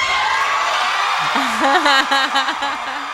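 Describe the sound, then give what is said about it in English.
A crowd cheers wildly as a man gets down on one knee to propose, with several people recording: a dense steady roar of voices, with one loud whooping yell wavering up and down above the din through the second half. “The crowd goes ballistic.”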